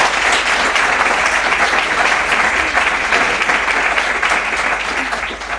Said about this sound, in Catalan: Aplaudiu-los ja d'entrada.